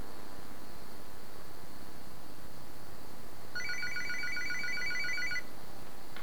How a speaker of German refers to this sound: Das Telefon klingelt.